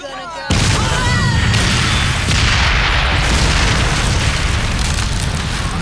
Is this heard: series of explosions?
yes